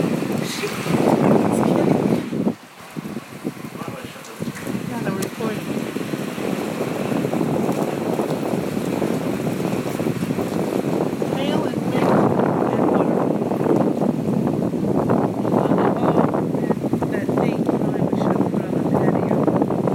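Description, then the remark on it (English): A hailstorm pounds down at night, almost 2 in the morning, recorded on a phone at a slightly open window, as a loud, continuous hissing roar, thick with rapid crackling impacts. It briefly dips around the third second, then surges back strongly and holds steady. “It's almost 2 in the morning. And there's a hailstorm.”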